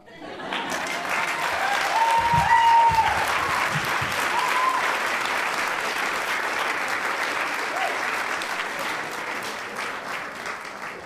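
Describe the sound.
An audience at the Whether or Not Galley Table Story Show applauds its storytellers steadily for about eleven seconds, a dense wash of clapping that stays loud throughout, with a few whistles and cheering voices rising above it near the start.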